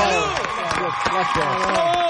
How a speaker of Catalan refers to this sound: Salut! Sempre m'ha agradat aplaudir-me. Sempre m'ha agradat.